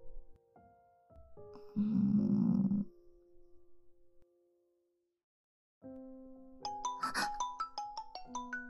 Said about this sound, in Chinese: 对了，你的手机响了一上午了。19个挂断电话，有这么多吗？